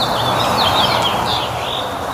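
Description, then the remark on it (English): Birds of the Austin, Texas area chirp and warble in spring in quick, high-pitched phrases over a steady outdoor hiss, the calls fairly clear, with no one speaking. “Here is Reggie's bird sound that he submitted.”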